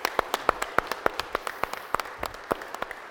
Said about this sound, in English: Give them a big round of applause and just say thank you so much.